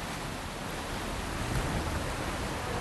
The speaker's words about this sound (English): the whole jam is kicking loose. I mean, right down the middle, there's just this massive current. Huge amounts of ice are just suddenly accelerating out of here, coming out from under the dam. I'm going to see if I can get some of the noise of it.